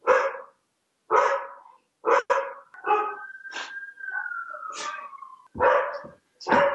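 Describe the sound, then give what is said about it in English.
A dog barks loudly in a rapid series of sharp, excited barks, with a drawn-out whine in the middle of the burst, as somebody knocks at the door. “Sorry, somebody's knocking at the door and the dog is going nuts.”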